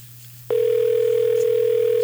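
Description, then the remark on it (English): A loud, steady telephone line ringing tone cuts in after a brief quiet moment and holds unbroken, a single continuous electronic pitch with a faint low hum beneath it, as a radio station places a call to a listener on the air. “Don't you love the sound of somebody calling somebody on the air?”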